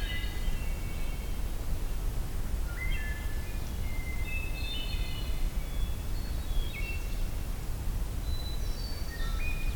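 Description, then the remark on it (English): Fluty, ringing phrases of a wood thrush song, not all that distant, repeat in the Allegheny area, mingling with other bird calls over a steady low rumble of outdoor background noise. “I think there's a distant wood thrush here. Yeah, actually it's not all that distant.”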